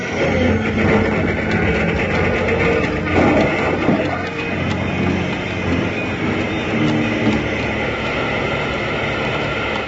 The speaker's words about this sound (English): Wild Bill, Jingles, and Bob Sharon were moving up in the engine to finish the railroad into Silver Sight when they rounded a curve to find a bonfire on the ice directly in their path. The engine plunged toward it, too late to avoid a crash.